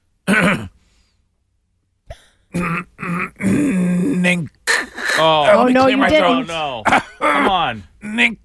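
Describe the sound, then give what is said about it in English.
A voice clears its throat loudly several times, the gravelly bursts running into drawn-out vocal grunts and groans after a brief pause. “clear my throat.”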